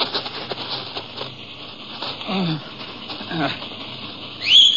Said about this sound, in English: And in response to the whistle, the horses trotted up to him.